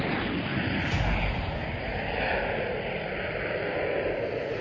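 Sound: airplane flying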